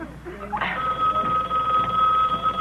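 A telephone rings with a steady, sustained tone that starts after a brief burst and carries on to the end, fairly loud over a low background hum, with no one speaking.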